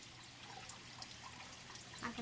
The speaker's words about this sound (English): A hand turns on the sink faucet.